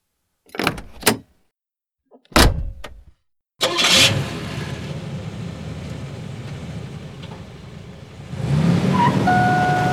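car engine running

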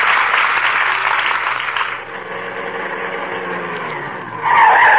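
car brakes screeching

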